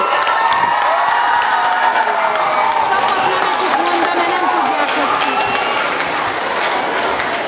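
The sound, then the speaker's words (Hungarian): A large audience applauds steadily and loudly throughout, a dense wash of clapping with crowd noise and scattered voices mixed in, sustained without a break. The applause is for a teacher and team from Arany János Általános Iskola in Marcalváros, called up at a young researchers' obstacle competition. “kérünk egy tanárt, nevelőtanárt, innen, ó, előttünk van, tapsoljuk meg őket!”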